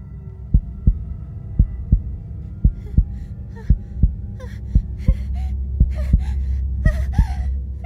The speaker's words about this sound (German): Lillys eigener Herzschlag und ihr heftiges Atmen hallen laut im Inneren ihres Kopfes wieder.